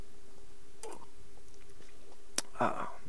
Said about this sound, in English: Well, oh, let me take a sip of my espresso. It's getting cold. You can't let espresso get cold and then drink it. Just a second.